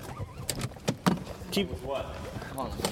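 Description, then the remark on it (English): Several sharp knocks and clicks as a car door is opened and a person climbs out of the car, over a muffled voice and light background rumble. “… can't tell a story and get out of the car at the same time.”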